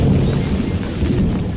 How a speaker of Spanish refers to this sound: Entonces se escuchó el rayo. Al ratito, otra vez.